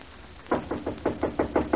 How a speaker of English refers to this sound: I'll knock on the door.